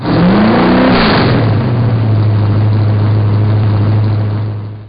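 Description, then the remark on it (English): A car engine starts and revs up with a rising whine, then settles into a steady, loud low drone, with no voices. “I listened to the directions and hopped in my car to start my task.”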